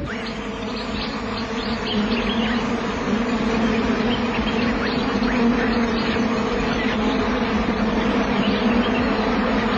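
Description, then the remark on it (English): A dense, steady drone of many flies buzzing at once over the remnants of a carcass, a continuous low hum with faint higher whines of individual insects darting through it, fairly loud and unbroken with no voices. “They've taken their pickings, leaving the pathetic remnants to the flies.”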